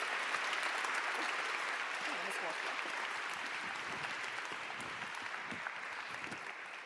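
Sustained applause from a sizable crowd, a dense steady wash of clapping that stays loud and even for several seconds, with no one speaking over it.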